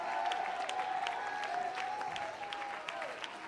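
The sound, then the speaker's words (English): An audience claps their hands together, as the preacher calls on them to, in a dense, steady wash of applause that holds at a constant level for several seconds, with a faint sustained tone running underneath. “Clap your hands.”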